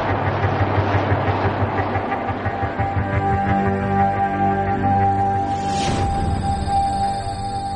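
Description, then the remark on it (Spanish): The Apollo 11 rocket's engines roar at liftoff in a loud, continuous rumble with steady droning tones layered over it, and a brief sharp burst of noise near the end. “Todos los motores encendidos. Despegue. Tenemos el despegue.”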